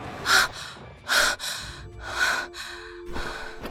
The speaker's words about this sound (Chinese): 翻身从床上坐起，急促地喘息着，目光在房间中扫过，只见此时已是深夜，自己并没有被僵尸包围。